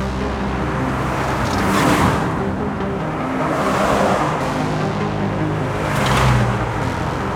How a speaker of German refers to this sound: Die Steinbachstraße war schon immer eine vielbefahrene Straße. Sie verbindet den Erbacher Kern mit der Schnellstraße in Richtung Jägersburg.